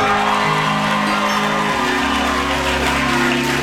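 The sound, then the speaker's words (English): A large audience claps and cheers in a steady, loud wash of noise that holds for the whole stretch without dying down, with scattered whoops rising through it. “At being manipulated into applause.”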